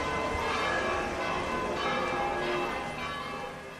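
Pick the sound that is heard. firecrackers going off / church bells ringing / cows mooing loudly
church bells ringing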